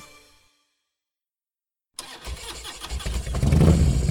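After a brief silence, a motorcycle engine is kickstarted and catches with a sudden roar, then revs, growing louder and rougher.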